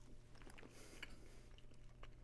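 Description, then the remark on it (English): Wet chewing of a sticky peanut chew candy, with soft smacking and squishing bursts repeating irregularly over a low steady hum, no talking. “There's probably nothing grosser than hearing somebody chew on a recording.”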